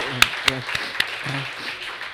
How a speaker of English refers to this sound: Let's have a round of applause for dogs.